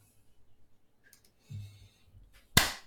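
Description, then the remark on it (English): A single sharp, loud hand clap marking the end of a recording rings out at the very end and fades quickly, after a stretch of faint low rumbling and soft rustling. “So that clap just ends the record.”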